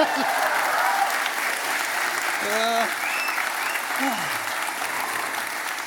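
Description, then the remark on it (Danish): A live audience seated on two floors claps and cheers loudly and steadily, dense applause filling the whole stretch, with a few whoops and shouted voices rising out of the noise. “Hold kæft, I er glade. Det er dejligt. Det er det, der sker, når man putter publikum i to etager.”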